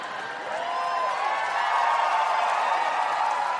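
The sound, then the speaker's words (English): An audience cheers steadily throughout, a dense wash of crowd noise mixed with applause and a few high whoops, swelling slightly midway and staying loud to the end, with no one speaking over it. “Cheer all you want.”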